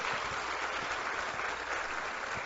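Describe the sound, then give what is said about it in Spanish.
A crowd in Santo Domingo Este claps steadily in recognition of the Familia Feliz programme, a dense wash of many hands applauding at once, sustained and fairly loud throughout with no voices standing out. “Yo creo que eso merece todo nuestro reconocimiento y todo nuestro aplauso.”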